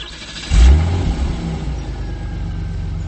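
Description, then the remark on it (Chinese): A car carrying Dai Jitao and Chiang Kai-shek starts off after Dai tells the driver to go: the engine suddenly revs loud and deep about half a second in, then settles into a steady low rumble that slowly eases off as the vehicle pulls away. No voices. “汽车远去之后”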